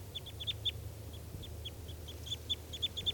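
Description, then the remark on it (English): Three crossbills near a net call in quick bursts of short, high-pitched chirps before taking off, clustered irregularly and fairly faint, over a low, steady rumble. No one speaks. “Here come the three birds, and they're going towards the net.”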